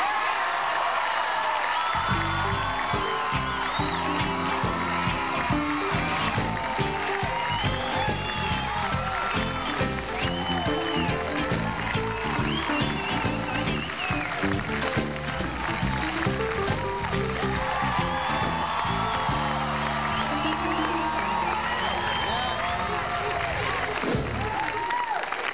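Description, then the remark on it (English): A studio audience screams, whoops and cheers loudly and continuously for a singer for the whole stretch, with a band playing steadily underneath the crowd noise. “The girl's still screaming for you.”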